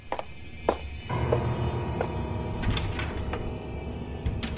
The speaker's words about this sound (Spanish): abre la puerta del baño y la vuelve a cerrar, bajándose los pantalones.